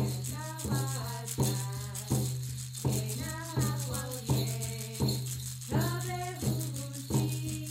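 A hand rattle shakes in a steady, even beat, roughly one sharp burst every beat, while a voice sings a melody over it and a low steady tone hums underneath.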